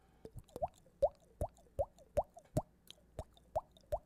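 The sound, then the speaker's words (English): A steady run of about ten hollow, wet-sounding plops made by slapping a bearded cheek, mimicking dripping water, each pop with a slight upward pitch bend, evenly spaced and moderately loud, with no talking. “That's a drippy water sound I make from hitting my cheek.”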